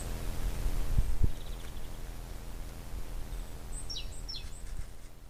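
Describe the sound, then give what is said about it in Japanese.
An unusual bird call in the garden of a house in the town of Quickborn, about 15 minutes by car from Hamburg, Germany: a few faint, high descending chirps over a steady outdoor hum, with a couple of soft thuds near the start and no one talking. “ハンブルクから車で15分ぐらい行ったところのお家、クイックボーンという町のお家の庭で不思議な鳥の声を聞きました。”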